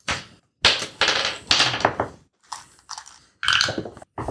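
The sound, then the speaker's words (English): Dice clatter and tumble across a tabletop in several quick bursts as players roll for initiative in a tabletop game, each roll rattling briefly before settling, with short pauses between throws. “Everybody, roll initiative.”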